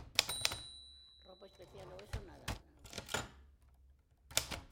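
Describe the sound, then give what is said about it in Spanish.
Sharp mechanical typewriter keystrokes strike in irregular bursts, opening with a ringing bell-like chime, as a man in Dresden on 23 February 1975 types a letter to the Prague delegation while smoking a cigarette. A brief voice is heard between the fairly loud clacks. “está sentado frente a su máquina de escribir mientras fuma un cigarrillo.”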